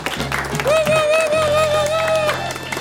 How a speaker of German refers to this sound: Ein großer Applaus für die mutigen Kinder.